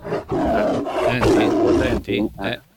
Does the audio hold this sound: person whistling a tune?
no